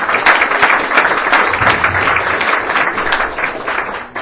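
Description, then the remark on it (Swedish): Steady, dense applause from an audience in a dining hall welcoming speaker Peter Cohen fills the whole stretch, a loud continuous patter of many hands clapping at an even level with no voices over it. “Så att jag tycker att vi hälsar honom välkommen med en varm applåd och han kan få presentera sig själv lite närmare.”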